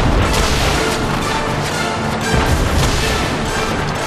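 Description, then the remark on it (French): Cannons fire from all sides at attacking Huns in a dense, continuous barrage, heavy booms overlapping into a loud, rumbling roar of battle that never lets up over the few seconds, with no voices. “Les canons font feu de toutes parts, envoyant voltiger les Huns dans les airs.”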